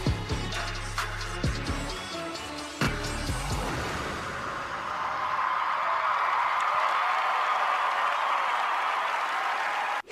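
A song's final notes give way to a large audience bursting into loud, sustained applause and cheering for a duo's stage performance, continuing to the end.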